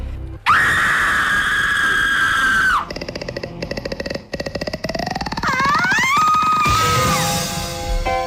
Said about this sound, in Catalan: Cada persona que faci un crit ho farà d'una manera diferent.